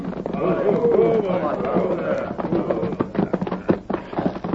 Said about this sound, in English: they circled the village and reined in their horses before the teepee of Black Fox